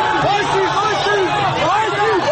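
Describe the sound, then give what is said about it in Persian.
A protest crowd shouts together as officers with batons charge, a loud, continuous roar of many voices, with rising and falling pitched cries layered over dense babble throughout. “جمعیت نیز یک صدا فریاد می زند.”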